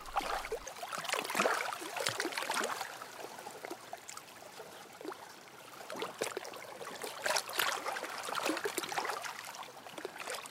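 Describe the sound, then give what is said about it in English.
Rushing, fast-flowing river water churns steadily, a dense, hissing wash with bubbling, splashing surges rising and falling throughout, no voices present. “look at areas where the flow is clearly going to be fast, in which case I get very complex water textures, which I love, and then just let my ears guide me.”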